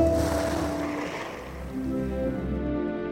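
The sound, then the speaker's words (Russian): Small boats moving across lake water at a fishing settlement near Uglich, Russia, with a steady low rumble and soft washing of water that continues throughout, moderately loud, no voices. “По озеру и в наши дни скользят небольшие лодки.”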